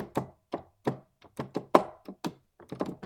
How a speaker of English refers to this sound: Ooh, that's loud. That internal microphone on the Mac really picks up the keyboard thumping.